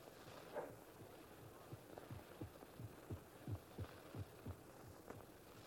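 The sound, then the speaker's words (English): A steady heartbeat of a skinny, sick old man thumps in low, muffled double beats, repeating at an even rhythm over a faint, constant hum. No one speaks. “Hear if his heart beats.”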